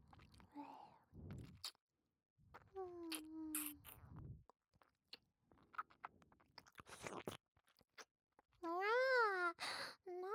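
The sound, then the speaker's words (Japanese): Wet licking and lip-smacking noises of a face being licked, with irregular slurps and clicks, broken up by a few soft, drawn-out voiced hums or moans, intimate. “大好きなご主人様のお顔をいっぱいいっぱいペロペロなめなめしていいにゃ。”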